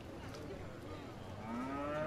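cow mooing

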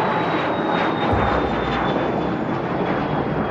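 airplane engine

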